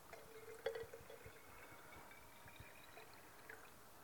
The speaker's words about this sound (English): And you know what's going to happen the other way around. If I pour the dirty water into the clean water, it is going to make it dirty, isn't it?